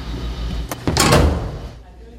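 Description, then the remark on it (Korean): A book vending machine drops a book after a child presses its button: a short click, then a heavy, booming thud with a brief rattle that fades out quickly over a low background hum. “버튼을 누르자 쿵 하는 소리와 함께 작은 입구 앞으로 뭔가가 떨어지는데요.”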